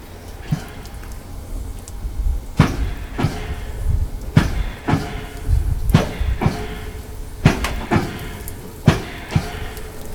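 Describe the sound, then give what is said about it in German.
A steam locomotive's air pump, or piston feed pump, works in a steady rhythm of sharp metallic knocks, roughly one to two per second, over a low rumbling steam background with no talking; the locomotive is about to hiss off steam. “Beziehungsweise die Kolbenspeisepumpe. So, hier wird er gleich abzischen.”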